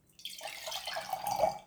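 In the morning, a large wooden bucket dips into a clear mountain stream and scoops up water for the first time: a continuous slosh and gurgle lasting about a second and a half, swelling slightly toward the end, with no voices.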